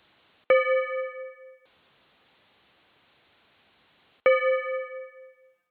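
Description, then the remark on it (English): A timer bell, pressed to mark the start of a one-minute speech, is struck twice, about four seconds apart, each a bright ringing ding that fades over roughly a second. A soft hiss fills the gap between the rings. “and you're going to have 1 minute, and I will press the bell when your minute starts, and then you've got 1 minute to deliver your perfect speech.”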